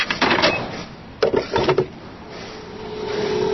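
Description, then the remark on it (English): A gas pump dispensing fuel: a few sharp mechanical clicks and clunks, then a steady, droning motor hum with a faint whine that carries on evenly to the end. “A gas pump threatens to drown out the sound of cash registers this holiday season.”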